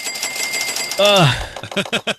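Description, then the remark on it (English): A cash register effect: a quick burst of rattling mechanical clicks over a thin ringing tone, then a bright falling chime-like swoop, followed by voices talking briefly. “Hey, it was supposed to be the cash register.”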